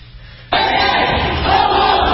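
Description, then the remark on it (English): After a brief near-silence, protesters outside a university forum abruptly burst into loud, sustained chanting and clapping, many voices shouting together in a dense, steady roar that continues to the end. “You know, they're clapping on the 1 and 3 versus the 2 and 4, vice versa.”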